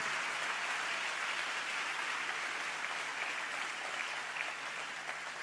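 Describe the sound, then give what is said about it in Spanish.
A church audience applauding God during a sermon, a dense, sustained wash of many hands clapping at once that holds at an even loudness throughout, with no voices rising above it. “Le damos un fuerte aplauso a Él.”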